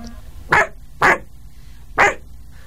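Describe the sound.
A woman ventriloquist imitates a dog barking: three sharp, loud woofs spaced about half a second apart, with the last one after a slightly longer pause, performed alone without talk.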